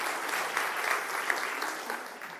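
A crowd claps steadily in a church during a service, a dense, sustained wash of many hands applauding at once with no voices standing out, applause for the Go Christmas team.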